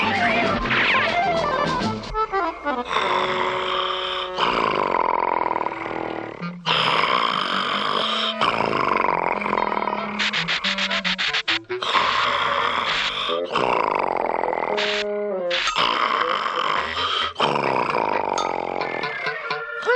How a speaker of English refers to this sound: Get to sleep with … snoring like that.